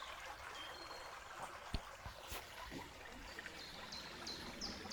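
babbling river water

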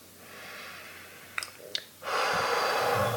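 slow deep breathing

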